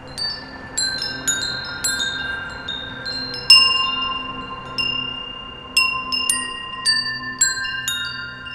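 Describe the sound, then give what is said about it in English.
A prototype musically tuned wind chime, carried along a stone pathway, rings out a slow melody, each struck note clear, its bright tone lingering and overlapping the next, with no voices present. “walks along a stone pathway with one of his musically tuned wind chimes.”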